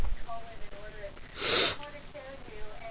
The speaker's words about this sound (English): And it's got me sneezing.